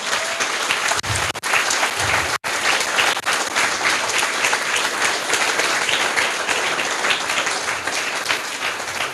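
A crowd applauds the event's organising team steadily for several seconds, a dense, even wash of many hands clapping at a consistent loud level with no speech over it.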